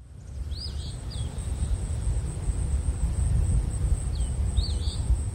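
An eastern phoebe sings two short, raspy phrases a few seconds apart, fairly faint over steady low wind rumble and a thin, constant insect drone.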